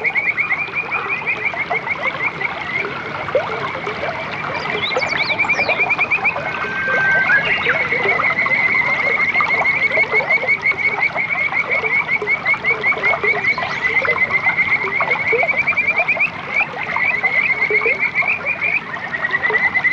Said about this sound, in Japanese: 5月中旬、今年もカジカガエルが鳴き始めました。